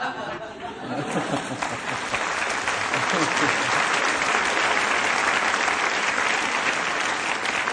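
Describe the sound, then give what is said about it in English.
A crowd breaks into steady, dense applause that swells within the first second and holds at a loud, even level throughout, with faint chatter mixed into the clapping. “What are you applauding for?”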